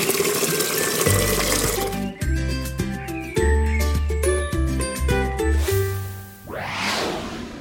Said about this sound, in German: dann schnappen wir uns mal die Gießkannen und gießen ein bisschen